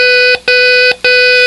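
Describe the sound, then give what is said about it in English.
Three long, steady electronic beeps of the same pitch, separated by short even gaps, like Morse code for the letter O. The tone is loud and clear, with nothing else behind it. “Three long beeps.”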